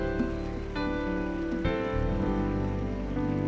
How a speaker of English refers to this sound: Quickly, quickly, quickly come forward here. Keep clapping as they come. Keep clapping.